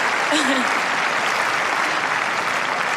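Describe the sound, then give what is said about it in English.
A large crowd claps and cheers continuously in a dense, steady roar of applause, loud throughout, with a brief whistle or shout rising near the start, cheering for a player after a Grand Slam semi-final. “Thank you very much for cheering for me.”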